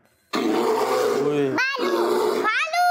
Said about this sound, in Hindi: भालू है ये। वाह भाई वाह, ये था भालू।